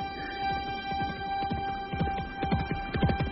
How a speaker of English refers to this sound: My great horse is coming. Coming at last. Dear, it's coming,